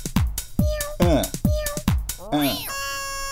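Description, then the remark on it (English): A person does a short, drawn-out meow imitating a cat at a pretend cat party, rising then falling in pitch, over an upbeat thumping dance rhythm in the background. “Cat party! Yeah! Everybody dance! Meow.”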